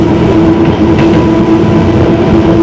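A train rumbles steadily along the tracks, a loud continuous roar with a sustained hum running through it and faint rhythmic clatter, no voices present.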